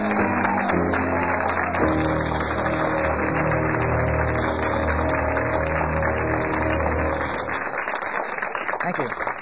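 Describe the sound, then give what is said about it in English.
A studio audience applauds steadily for several seconds as host Michael Feldman is welcomed onto the show, a dense wash of clapping over what sounds like a band playing underneath, before the clapping breaks up and thins out at the end. “Kind of formal here with applause and everything, isn't it?”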